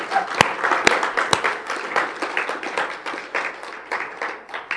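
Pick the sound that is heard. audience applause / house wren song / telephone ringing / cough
audience applause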